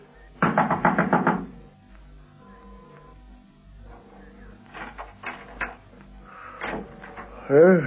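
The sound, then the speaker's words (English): A rapid burst of about six loud knocks by a police lieutenant on the wooden door of a house in Nelson Street, Boyson's, at 6:30 a.m., followed by a quiet pause, some faint shuffling and thumps, and a voice speaking at the end. “is knocking on the door of a house in Nelson Street, Boyson's,”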